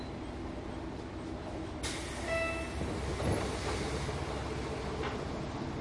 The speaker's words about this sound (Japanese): で、この列車、麻生方面、宮地行きの普通列車です。麻生方面、宮地行きの普通列車です。発車までしばらく待ってください。